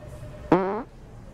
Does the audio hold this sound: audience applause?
no